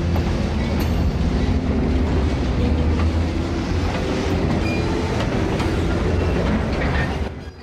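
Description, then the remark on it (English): A train slowly pulls away from a station, rumbling steadily, a heavy low drone of engine and wheels with faint rattling on top, holding constant before dropping off abruptly at the very end. No voices. “The train slowly pulls away from the station.”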